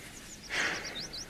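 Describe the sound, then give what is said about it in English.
Birds sing faintly in a quick series of short, high, rising chirps, with a soft breathy rush in the middle and no talking. “Listen to the birds.”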